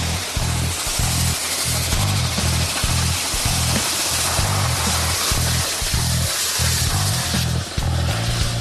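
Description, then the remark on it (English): Loud, steady rush of air blasting down an excavation hose as a crew starts digging a hole, a broad hissing roar that never lets up, with a low engine rumble throbbing rhythmically underneath. “Blowing air down the hose.”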